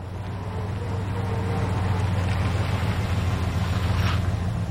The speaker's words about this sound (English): A pickup truck backs up loaded with furniture.